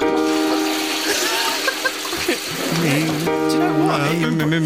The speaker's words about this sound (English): But almost all of the toilets in the world flush in the key of E flat. What? They do. And here's proof. E flat. That's E flat. Oh, that's E flat. And here's a toilet.